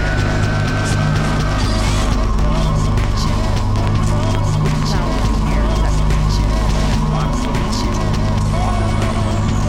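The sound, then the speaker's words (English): A vacuum cleaner runs steadily and loudly, a dense motor drone with a rough whine that holds without a break for the whole stretch. “The vacuum cleaner.”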